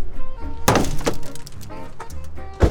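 Three hard, irregular thwacks on a car body with someone sitting inside, sharp and loud with a metallic ring, spaced unevenly over a faint humming background.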